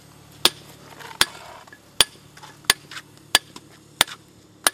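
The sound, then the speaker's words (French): Sharp, ringing strikes of a hammer on a chisel shaping stone that has been measured and sawn to height, about seven evenly spaced blows over a few seconds, crisp with a quiet background and no voices. “Comment est-ce qu'on arrive à être autant précis avec un marteau et un ciseau pour façonner la pierre?”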